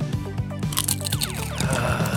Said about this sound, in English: Eating chips into the microphone.